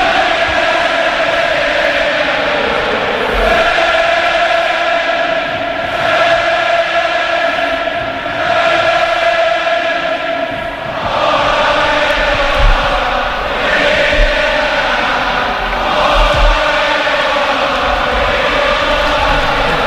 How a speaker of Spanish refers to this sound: Ahí salen los protagonistas con el equipo arbitral Francisco Hernández Maeso a la cabeza. Así suena la cartuja, así suena la gente del Betis.